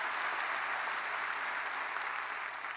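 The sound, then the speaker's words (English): An audience claps in praise of the Lord in a dense, steady wash of applause, many hands at once with no clear rhythm, holding an even, fairly loud level throughout without voices on top. “Give the Lord a hand clap of praise for what he gave through Jesus Christ.”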